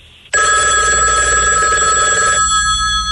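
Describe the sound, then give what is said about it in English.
A telephone rings loudly and continuously, the way it rings when you call 911, its bright, sustained electronic tone starting abruptly and holding steady with no voices over it. “It rings like that when you call 911.”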